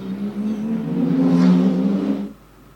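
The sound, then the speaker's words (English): A race car engine, Tim's car, roars loudly on a racing circuit for a couple of seconds. Its buzzing note climbs slightly as it revs, then cuts off abruptly, leaving a faint low hum. “I should point out immediately, if you don't mind me interrupting, that was Tim's car I was driving.”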